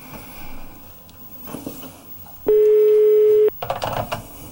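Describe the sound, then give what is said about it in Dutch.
A single loud ringback tone from an outgoing phone call placed live on air, one steady second-long beep heard over a line, with faint background noise before it and a burst of rustling afterward. “Hij gaat over. Telefoon.”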